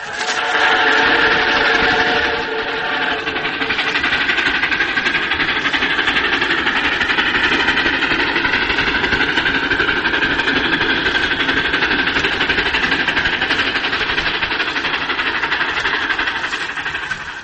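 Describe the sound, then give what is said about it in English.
A steady, loud New York Central train engine rumbles continuously, with a dense mechanical roar and faint whistle-like tones drifting above it, no voices present. “For the sounds are the sounds of trains.”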